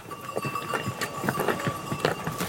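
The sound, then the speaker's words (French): Donkey hooves clop along a footpath in an uneven, steady stream of hollow knocks as the donkeys arrive, with a faint continuous whine and outdoor hiss beneath. “Soit on a des ânes qui arrivent, voilà, et puis après il y a les gens qui sont là.”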